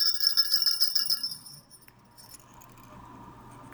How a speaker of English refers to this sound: We may have forgotten that we have our little alleluia bells in our resurrection eggs.